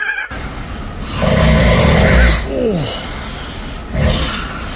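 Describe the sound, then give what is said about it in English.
A person snores in their sleep, a long raspy breath followed by a gliding, groaning moan, then another rough snore. The sound is loud, with no talking. “General snoring, into a sleep moan, into a sleep babble, into more snoring and moaning.”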